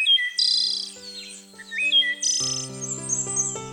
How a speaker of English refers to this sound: To many, this song is considered to be one of the most beautiful of North American birds.